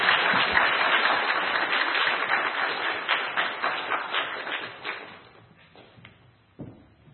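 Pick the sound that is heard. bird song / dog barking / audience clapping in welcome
audience clapping in welcome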